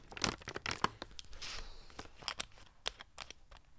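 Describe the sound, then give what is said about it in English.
Sharp, irregular crackles of a plastic water bottle being crinkled, twisted and opened, with a burst of dense rustling midway and scattered snaps trailing off. No one speaks. “It'll be the crinkling of the water and then the opening of the bottle and the gurgle of the mouth.”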